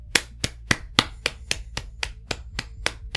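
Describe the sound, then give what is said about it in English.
Slow, steady clapping for interpreters, about a dozen sharp, crisp claps in an even rhythm, like a single person applauding alone with no voices. “So actually, no, the applause is only for interpreters.”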